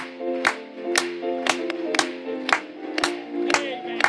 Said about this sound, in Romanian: Când cei sfinți cu toți vom fi, hai să o batem de palme pentru el.